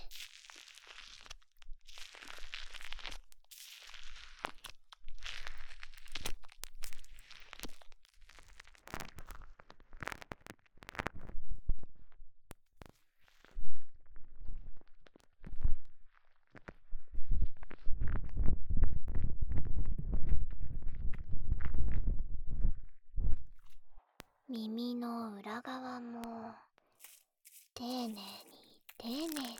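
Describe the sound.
Soft, crackly squishing of soapy foam being rubbed and kneaded over the outer ear in a massage that lifts off sebum, irregular, swelling into a deeper rumbling stretch before a voice briefly speaks at the end.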